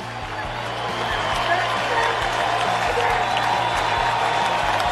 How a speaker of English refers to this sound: Everybody standing up and applauding for the great Pujols. It seems to me that every one of his home runs either ties a game or gives the Cardinals a lead. And a curtain call is being asked for here in Pittsburgh.